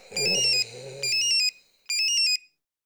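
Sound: mobile phone ringing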